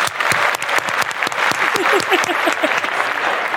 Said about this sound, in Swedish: Jag tycker vi tar en applåd för det också.